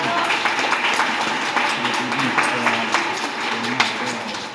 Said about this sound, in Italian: Ecco, un applauso bello, vi piace il presepe?